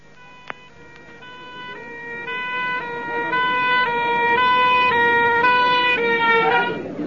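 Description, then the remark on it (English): An ambulance siren alternates between two tones in a steady rhythm, growing louder as the vehicle approaches, with a faint road rumble beneath and a brief click near the start. “Well, you've all seen an ambulance before, haven't you?”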